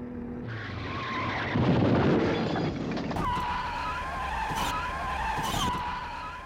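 Tires squeal in a long, loud skid, broken by a heavy crunching impact and a few sharp bangs and clatters as a BMW 7 Series accelerates and crashes into the rear of a Ford Focus, with no voices.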